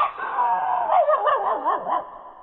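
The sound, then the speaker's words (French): A man imitates a dog barking, making a continuous, wavering, whiny yelp that rises and falls for a couple of seconds, fairly loud with no other sounds around it. “Le chien.”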